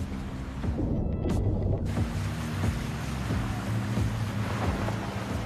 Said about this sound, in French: À une trentaine de kilomètres de la montagne, on est arrivé à la rivière sacrée de Kerulen. Elle était gorgée des pluies qui venaient de tomber.